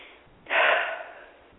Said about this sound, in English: I'm breathing.